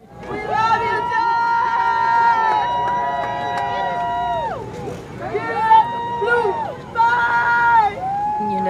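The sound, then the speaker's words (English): A crowd of voices calls out in long, drawn-out tones, loud, rising and falling in waves over a steady murmur of onlookers, as a horse-drawn wagon carrying John Lewis's flag-draped casket crosses a bridge over the Alabama River. One person yells "Goodbye, soldier" while others, including Alabama state troopers, salute the procession. “Someone in the crowd yelled, "Goodbye, soldier," as others saluted the procession, including Alabama state troopers.”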